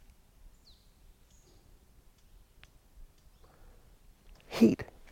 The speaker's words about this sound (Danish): Helt stille. Jeg vil sige, der er jo altid nogle fugle og sådan noget. Men en helt fantastisk ro.